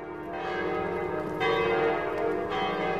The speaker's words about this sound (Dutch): Men luidt er de klok, volgens een oud gezegde. De stad telt vele klokken.